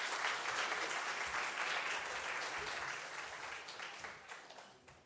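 A crowd applauds steadily, dense clapping filling the space at a fairly strong level, then gradually thinning and softening toward the end.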